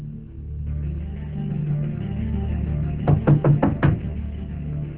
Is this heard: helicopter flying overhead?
no